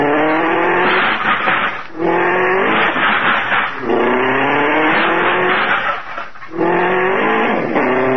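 An old hot rod's engine revs hard as tires squeal and skid repeatedly, loud, in several rising bursts with brief pauses between them, as the car pulls out of a tight parking spot.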